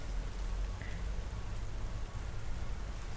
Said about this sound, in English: Rain's letting up.